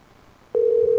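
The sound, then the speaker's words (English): A steady electronic telephone tone begins about halfway through after near silence, holding loud and unbroken to the end: the first ring of an outgoing phone call heard through the line, placed in the morning. “this will be Judy Summers if she answers the phone”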